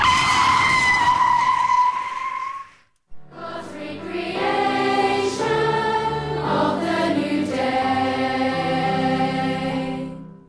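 A loud tire squeal sounds for about three seconds, then cuts off, followed by an off-road vehicle's engine roaring and revving steadily, with no voices.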